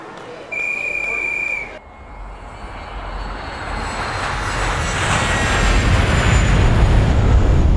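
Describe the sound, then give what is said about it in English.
An airplane engine runs, opening with a brief high whine before a broad, rumbling roar swells steadily louder and fuller to the end. “If only I could sneak on the plane.”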